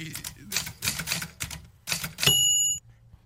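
sound effect, bell ding sound effect

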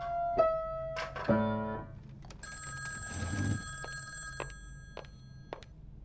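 household object, telephone bell ringing

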